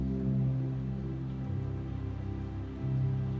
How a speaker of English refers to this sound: And tonight she comes to you in millions of precious drops of rain. Ready to touch your skin, soothe your heart,